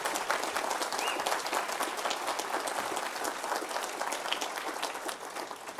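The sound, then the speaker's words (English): Sustained applause from an audience for Congressman Jim Sensenbrenner, a dense, steady wash of many hands clapping at once that holds at an even level for several seconds before easing slightly at the end. “Can we give him a proper round of applause, please?”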